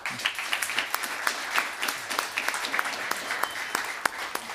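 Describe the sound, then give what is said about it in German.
A crowd applauds steadily for Tyrese Halliburton, voting on who wins a bag, with dense overlapping claps forming a continuous, fairly loud wash of sound and no voices breaking through. “Einmal bitte den Applaus für Tyrese Halliburton.”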